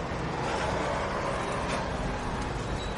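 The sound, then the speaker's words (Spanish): Steady outdoor ambience at a gas station where a young man checks the oil of his father's car, with a broad rumble of a car and road traffic holding constant throughout, no voices. “Más tarde está en una gasolinera comprobando el aceite del coche de su padre.”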